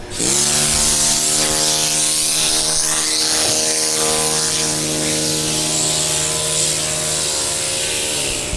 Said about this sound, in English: And that's the hammer hitting the chisel, but modernized.